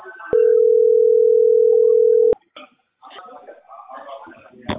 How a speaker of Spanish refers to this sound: teléfono